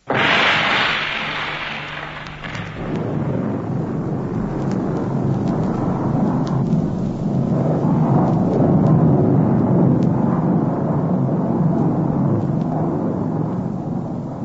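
A sudden loud explosive blast, set off for an artificial avalanche release, gives way to a long, heavy roaring rumble of an avalanche of hundreds of tons of ice and snow crashing down, sustained and powerful for several seconds with no voices.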